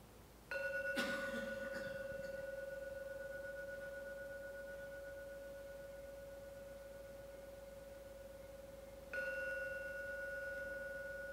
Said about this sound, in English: I will now ring the gong 3 times, and please listen as usual to every sound from the gong. When the last ringing vanishes, come out from your meditation.